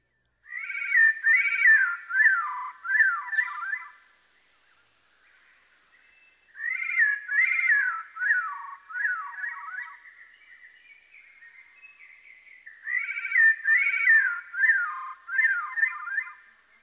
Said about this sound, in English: The Veery's self-sung duet is a good example of how a bird can produce more than one sound at a time.